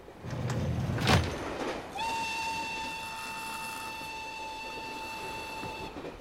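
A train rumbles along the rails with a steady, noisy clatter, a brief louder clank early on, then a long, sustained whistle sounds over the running noise for several seconds.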